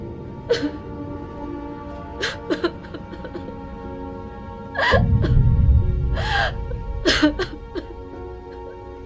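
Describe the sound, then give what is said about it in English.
An Asian woman sitting in a convenience store storeroom sobbing in ragged, gasping breaths that come in uneven bursts, fairly loud, with a low rumbling noise rising underneath partway through. “He turns around at the sound of sobbing.”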